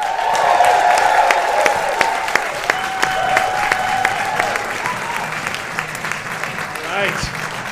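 A crowd at a comedy show at the Bell House applauds steadily, a dense patter of clapping mixed with some whoops and cheers, holding strong throughout before thinning slightly near the end.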